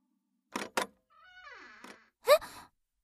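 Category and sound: household object, door creaking open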